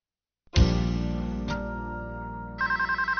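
A loud, sustained tonal chord swells in, then a telephone at the company Advanced Technologies starts ringing with a rapid, evenly pulsing electronic trill. No one speaks.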